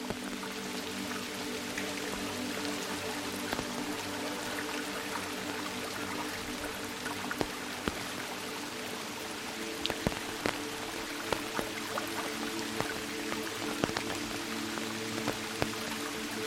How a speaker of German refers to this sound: Der Pfad schlängelt sich nun an einem kleinen Bach entlang. Das leise Plätschern des Wassers, das über glatte Kiesel und moosbedeckte Felsen fließt, mischt sich mit dem rhythmischen Prasseln des Regens zu einer natürlichen Symphonie.